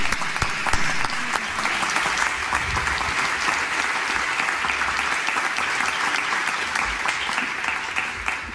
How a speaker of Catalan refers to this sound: a mi m'agradaria animar-vos a donar-li un aplaudiment